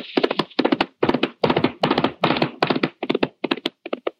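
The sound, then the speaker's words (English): The hooves of an approaching horse clop in a steady, rolling rhythm: clusters of sharp, hollow knocks repeating about twice a second at a fairly loud, even level, with no voices. “Wait, listen. My horse is coming.”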